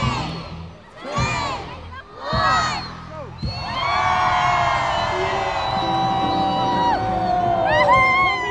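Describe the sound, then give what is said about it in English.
A crowd cheers at a Christmas Santa parade as Santa, waving above the crowds, throws out sweets to reaching children. High-pitched children's shouts and squeals come in three short bursts, then swell into a loud, sustained roar of overlapping excited voices. “And he's delighting the crowds, throwing out sweets as little hands reach out.”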